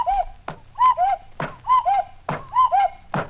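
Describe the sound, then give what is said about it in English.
A cuckoo clock sitting on top of a radio, turned back to 4 o'clock, calls four times, each two-note cuckoo followed by a hollow wooden clunk from the mechanism, in a steady, fairly loud rhythm with no voices. “On top of radio, light behind head, is cuckoo clock. Long Pan, turn clock back to 4 o'clock.”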